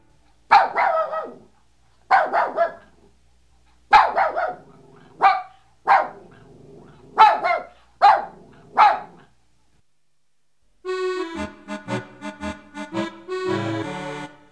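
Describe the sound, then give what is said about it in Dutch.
A dog in a house barks loudly, about seven sharp barks in an uneven rhythm, then a pause before a ringing, bell-like run of tones. “De hond die blaft, de kraan die drupt, ik hoor de bel.”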